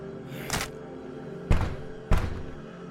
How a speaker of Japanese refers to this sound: あれ、爆発は花火の誤作動だ。